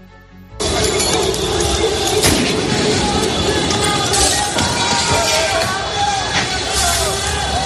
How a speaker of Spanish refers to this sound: tras 6 noches seguidas consecutivas en las que las imágenes han sido de saqueo, revueltas, violencia callejera, protestas, con sonidos como estos que dejaban los ataques a edificios públicos o incendios a coches en París, Toulouse, Lyon o Marsella.